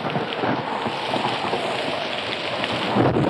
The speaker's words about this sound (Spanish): Pronto la lluvia se desbordaría por la sierra, uniéndose al llanto indígena por Chocne.